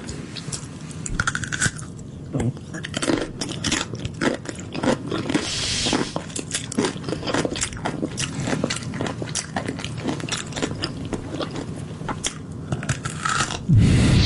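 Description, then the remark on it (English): Close-miked ASMR of a young woman eating a pickle: crisp, wet bites and crunches followed by steady squishy chewing and smacking, with sharp clicks scattered throughout and no talking. “Here's an example of a young lady eating a pickle.”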